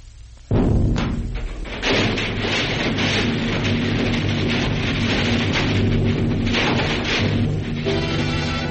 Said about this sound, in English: The center of the Times building blows up. The force of the explosion snaps the girders supporting the second and third floors as so many toothpicks.